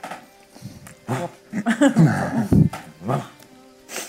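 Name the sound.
dog barking and whimpering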